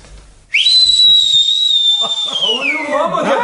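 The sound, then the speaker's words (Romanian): A person whistles one loud, long, high note that rises sharply at the start and then drifts slightly lower as it is held. Voices begin talking underneath near the end. “Să vadă domnul hoț că te pricep la fluierat.”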